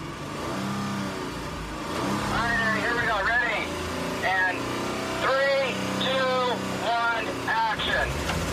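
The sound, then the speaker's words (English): A stunt car driven by Eddie in November 2019 revs hard in repeated bursts, its pitch swooping up and down over a steady low rumble as it is driven aggressively. “Eddie's in a stunt car.”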